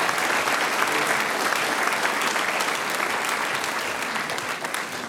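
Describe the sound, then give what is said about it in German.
Steady, dense applause from an audience for the musicians of a band, many hands clapping continuously at an even loudness for several seconds without any talking over it. “Die …, einen Applaus für die Herren.”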